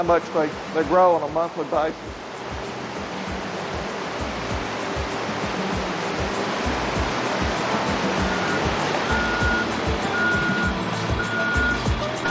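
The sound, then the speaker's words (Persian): A state trout hatchery truck reverses, its backup beeper sounding steadily over a loud rushing wash of engine and water noise; a voice speaks briefly at the start. “این کامیون مال پرورش قزل‌آلا ایالت ماست.”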